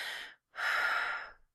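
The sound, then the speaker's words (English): Two deep, breathy exhalations with a brief silent gap between them, the second longer and fuller, sounding like someone deliberately breathing to steady themselves. No talking. “I'm breathing.”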